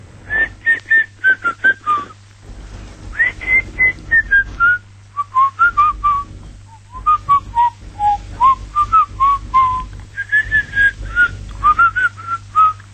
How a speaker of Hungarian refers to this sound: Figyelj, én énekelni nem tudom, de a dallamát bármikor el tudom fütyülni.